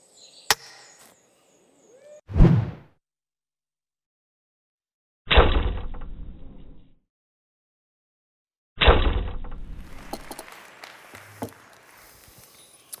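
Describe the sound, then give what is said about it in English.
Several sharp, solid thwacks of arrows striking a target butt, spaced a few seconds apart with silence between, each impact followed by a brief rattling decay; a faint click opens the sequence. “In modern Bersal competition, to score a maximum number of points, the archer must shoot a single arrow down this leafy gauntlet and center it in a zone less than 2 inches wide on the opposite butt.”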